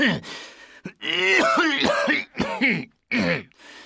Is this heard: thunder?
no